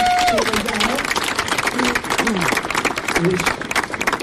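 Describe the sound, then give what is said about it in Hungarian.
An audience applauds a woman who was among the first ten to take a plunge in the 1-degree Tisza river: steady applause for about four seconds, a dense, loud wash of many hands clapping, with a few voices calling out and cheering underneath. “A legelső csobbanáson mindössze 10 fülöttek velem, köztük egy hölgyel, aki szintén itt van valahol, a tapsoljuk meg”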